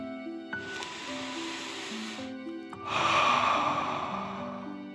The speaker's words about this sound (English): First, set your listening buddy to your side and let's take 3 deep dragon breaths. Breathe in through your nose, filling up your chest and belly, and then out through your mouth, pretending you are breathing fire. Ready? Okay, deep breath in and out.